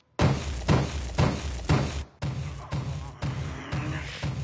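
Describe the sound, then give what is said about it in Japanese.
A door is battered violently with a rapid series of loud, heavy thuds at a steady pounding rhythm, the impacts booming with rattling wood between blows. No one speaks. “ドアが壊れんだろ、ヤバンワニ。”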